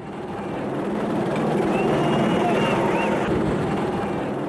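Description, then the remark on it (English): A steady, rumbling drone of police helicopters hovering overhead fills the air above a noisy city in South Africa, with indistinct voices and street bustle mixed into the dense background. “As police helicopters hover over the city, a Nigerian looting victim says South Africa's the richest country on the continent.”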